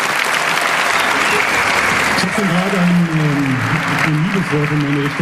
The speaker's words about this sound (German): Genau, also der allerfetteste Applaus für alle, die diese Veranstaltung möglich machen. Jetzt.